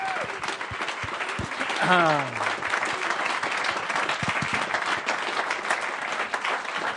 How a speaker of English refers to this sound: Let's give them a nice round, warm of applause.